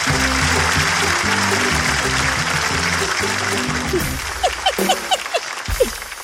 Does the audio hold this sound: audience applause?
yes